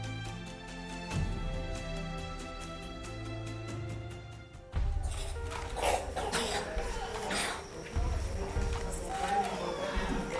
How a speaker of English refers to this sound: Can you hear them coughing? Can you hear that deep chest cough? Because the resistance is so low that the least little thing becomes a serious life or death issue for these children.